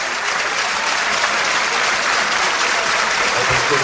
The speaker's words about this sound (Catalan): Joc aturat a Montilivi, marxa del camp Riquelme, molt aplaudit.